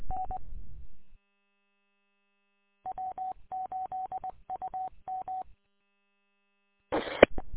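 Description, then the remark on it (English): A quick run of electronic touch-tone beeps as a phone number is dialed at Metro Airport, short even pulses in clusters with brief gaps, followed by a burst of louder noise at the end. “I hope I dial the right number though.”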